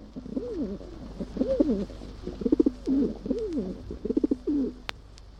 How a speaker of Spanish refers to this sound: Algunas personas tienen fobia a las palomas.